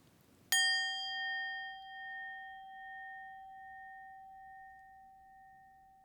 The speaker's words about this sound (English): That the sounds of the bells